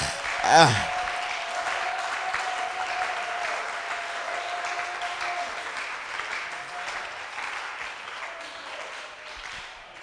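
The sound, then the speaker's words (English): An audience claps steadily and densely for about ten seconds, a brief shout rising and falling at the start, with a steady held tone humming beneath the applause. “Oh, some people are not clapping.”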